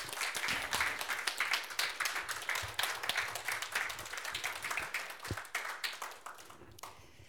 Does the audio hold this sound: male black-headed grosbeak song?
no